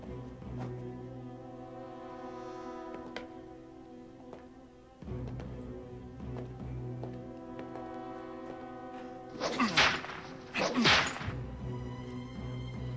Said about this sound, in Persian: شلاق.